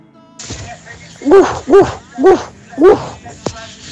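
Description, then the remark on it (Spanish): A child's voice imitates a dog barking, 'Au! Au!', for a teacher during a class activity imitating animals, giving four short, evenly spaced yaps, fairly loud, with a brief click just after. “Profe, ¿en tu casa puedo hacer como un perro? ¡Au! ¡Au!”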